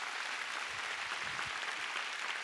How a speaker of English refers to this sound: Come on, let's give the Lord a big clap this morning.